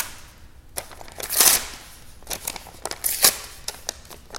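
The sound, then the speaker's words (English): A whole piece of paper is ripped apart into fragments in two bright, hissing tears with scattered soft crinkles and rustles between them. No voices are heard. “Here's a whole piece of paper. And then from this, we make some fragmental parts.”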